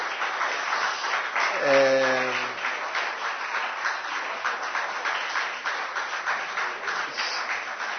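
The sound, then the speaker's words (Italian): An audience applauds steadily for about eight seconds, a dense wash of many hands clapping at an even, fairly loud level. A brief tonal hum briefly rises above it early on. “Se ci sono altri interventi, a voi l'applauso non tocca”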